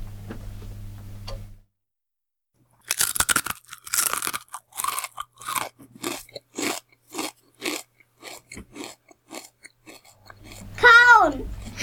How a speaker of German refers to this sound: Kauen. Ganz genau. Essen und Kauen war das richtige Geräusch. Das habt ihr sehr gut erkannt.